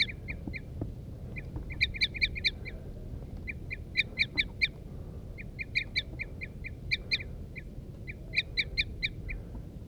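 wild birds calling

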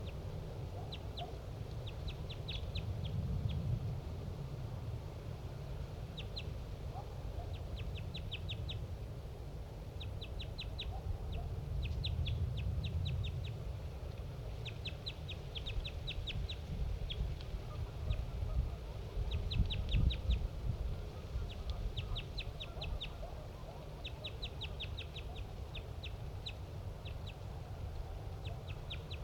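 wild bird calls

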